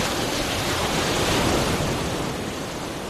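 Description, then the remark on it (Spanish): Ocean waves roll and break in a steady, continuous wash of surf, fairly loud, with a gentle swell in intensity midway before easing slightly. No voices. “Esto suena a mar, ¿eh? A olas en el mar. Bueno, océano.”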